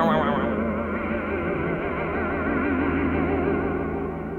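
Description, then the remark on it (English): A sustained electric guitar chord, played with the volume down and then turned up, warbles steadily as the neck is shaken as hard as possible, its pitch wobbling in a fast, throbbing pulse that mimics a helicopter's chop. Loud, effect-heavy, with no voices. “he was playing a chord with the volume down on the guitar, turning up the volume and shaking the neck as hard as he could.”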